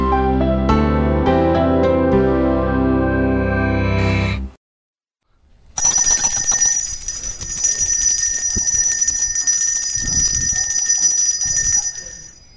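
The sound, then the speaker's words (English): A bell is rung loudly as an alarm during a church service: a few resonant, chime-like tones, a brief silence, then a continuous, shrill metallic ringing that keeps going for several seconds, with no voices. “As I've rang the bell and said, sound the alarm, it's time, did you have a positive response to that or a negative response to that?”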